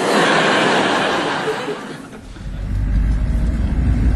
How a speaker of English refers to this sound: Green truck, that counts double.